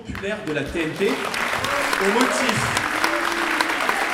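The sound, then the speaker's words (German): Sustained audience applause for French politician Bardella during a debate, a dense steady wash of clapping at fairly even loudness throughout, with indistinct voices and cheering mixed in beneath it. “Die Moderatorin verkündet wohlwollend, dass Bardella dieser Applaus nicht von der Redezeit abgezogen werde.”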